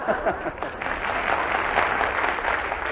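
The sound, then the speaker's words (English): A studio audience cheers and applauds in a dense, steady wash of clapping, with scattered shouts rising above it throughout. The burst is sustained at a fairly even level with no speech. “Silence, cheering thousands.”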